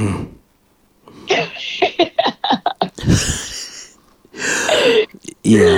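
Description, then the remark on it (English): A sharp, noisy sneeze bursts out midway, following a quick run of short breathy bursts, with voices and throaty sounds continuing around it. “Better bless you.”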